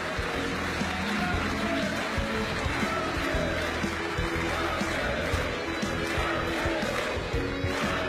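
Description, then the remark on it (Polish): A large crowd in Łódź applauds loudly and steadily for Polish Prime Minister Mateusz Morawiecki as he is invited onto the stage, with dense clapping mixed with cheering and shouting voices that never let up. “Ogromne brawa dla pana premiera.”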